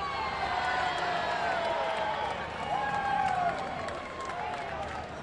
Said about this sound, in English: I believe the bat boy caught that one on the carom off the backstop. Got a well-deserved cheer from the crowd.